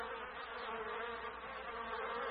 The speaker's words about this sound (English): The buzzing of the bees was very loud.